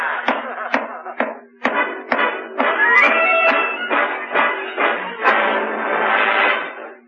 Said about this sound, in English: I'll go up to the attic and pound on the ceiling of his room all night with a broom handle.